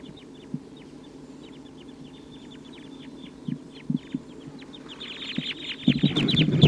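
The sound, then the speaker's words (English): A restless flock of wild birds, type 2 crossbills, call steadily from the treetops with short, repeated chirps and clucks, building into a dense, overlapping chorus near the end, with occasional low thumps underneath and no talking. “The wild birds are getting a lot of calling from the treetops.”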